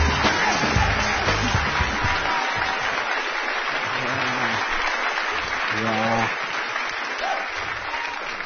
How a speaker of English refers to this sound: that applause. And he's in studio.